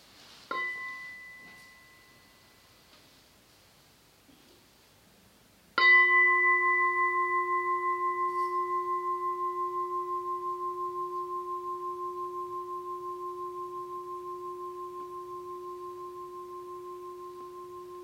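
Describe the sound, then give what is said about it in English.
A small bell is tapped lightly, then struck firmly a few seconds later to close a practice session, its clear tone ringing out and slowly fading over a long sustain, with no one speaking. “Maybe we have one sound of the bell for closing the practice session before then some announcements.”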